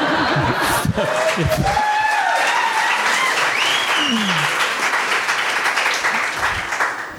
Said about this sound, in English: That's my Robert Frost impression. So I'm supposed to burst into applause after that.